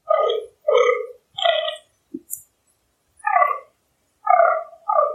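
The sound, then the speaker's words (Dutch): A fallow deer buck grunts during the autumn rut: about six deep, belching groans in uneven bursts with short pauses, plus a brief faint click partway through. No one speaks. “Het is een knorrend damhert.”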